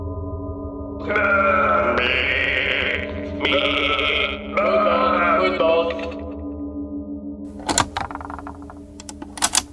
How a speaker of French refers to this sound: Quel bonheur! Et il y a aussi des moutons autour de nous.